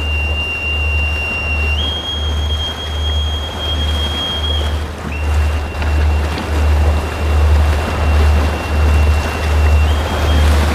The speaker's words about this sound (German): lässt den Anker lichten und raus sind wir auf dem legendären Irrawaddy River, der wichtigsten Wasserstraße des Landes.